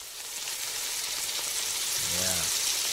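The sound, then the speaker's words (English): A steady, crackling sizzle of food frying in a hot pan fills the whole stretch, loud and continuous, with a brief low humming tone rising near the end. “Before he goes into that pressure cooker, he comes to WGN Radio to jump into the frying pan.”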